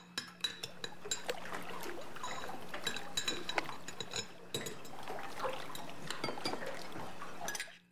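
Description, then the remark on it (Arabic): Dishes being washed by a child under a steady stream of running water while the children tidy the house, with frequent clinks and knocks of plates and utensils throughout, fairly loud, no voices. “الأطفال يرتبون البيت، واحد ينظف الأرض وواحد يغسل الصحون.”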